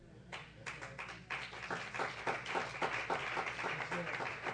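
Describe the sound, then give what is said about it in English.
A church audience claps together after an announcement that two church brothers have new apartments: a dense, steady stream of overlapping hand claps in a loose, even rhythm, holding at a moderate level for several seconds, with faint voices murmuring underneath. “I'm so glad y'all clapped.”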